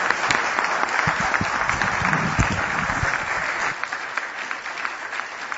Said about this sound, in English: So thank you again for your time tonight. A round of applause for our candidates, please, and our panel members.